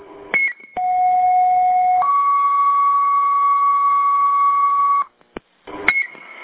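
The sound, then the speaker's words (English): Fire dispatch radio alert tones striking a third alarm assignment for a structure fire on Black Point Road: a steady electronic tone holds, then steps up to a second sustained pitch for several seconds, with brief squelch bursts and clicks at the start and end. No talking. “Fire alarm is striking a third alarm assignment for a structure fire on Black Point Road.”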